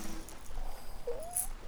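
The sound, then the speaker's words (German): Soft, breathy snoring of sleeping band members aboard a water-lily taxi rumbles steadily with no talking, and a thin whistling tone rises briefly near the end, like a wheezing snore. “Und schon bald gesellten sich zu dem leisen Plätschern des Wasserwurzelmotors das Schnarchen der Bandmitglieder.”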